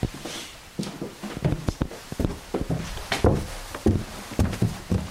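footsteps climbing a staircase

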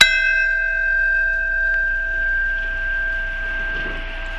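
memorial bells tolling

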